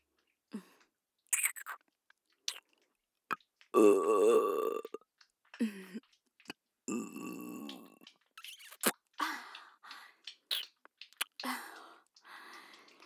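burp

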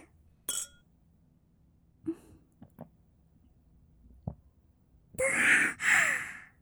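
glasses clinking

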